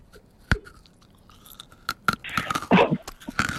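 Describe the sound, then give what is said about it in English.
Crunching of a hard, brittle fresh clinker lolly being chewed, with sharp irregular cracks that build into denser, louder bursts of crunching toward the end. No one speaks. “Oh, she's extra crunchy. That's a fresh clinker.”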